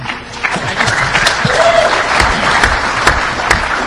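A crowd applauds steadily, many hands clapping in a dense, continuous patter that stays fairly loud throughout with a few sharper individual claps standing out.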